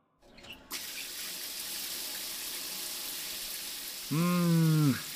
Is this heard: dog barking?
no